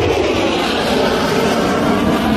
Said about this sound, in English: Now we have sound? Oh. You can hear it. Oh, okay. All right, that's a jet with the afterburner.